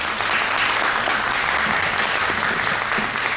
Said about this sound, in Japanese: 皆さんもう一度大きな拍手をお願いいたします。